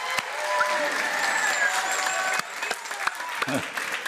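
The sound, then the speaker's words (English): An audience at a worship service claps to God steadily for about four seconds, a dense patter of hand claps with a few sharper ones standing out, over a sustained tonal hum of voices or instruments. “Okay, now if you were to get every miracle or the things you've been holding your faith for and it really broke free at this service, how would you clap?”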